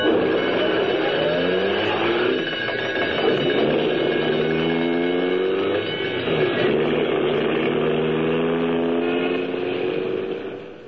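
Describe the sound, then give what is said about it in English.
An old ambulance roars through city streets on a call to 234 South Street, its engine loud for the whole stretch, with shifting tonal whines rising and falling over the steady rumble and no voices. “I've been driving this old baby for 8 rotten years. An ambulance, Mac, is a sacred thing.”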